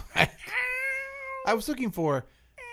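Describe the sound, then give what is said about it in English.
Clear meowing: a long, steady drawn-out meow, then a few shorter meows with falling pitch, separated by brief pauses. “Well, I should have had one of the cats sit in for you and just meow.”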